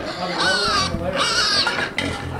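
A pen of hungry pigs on a Heifer farm, being fed during farm chores, squeals and grunts loudly and continuously, high-pitched overlapping squeals rising and falling with a few brief breaks.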